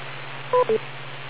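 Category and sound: signal or alarm, beep tone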